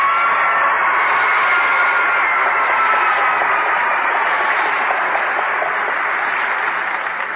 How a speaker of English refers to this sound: Well, thank you for that rip, snort, and round of applause, pretenders.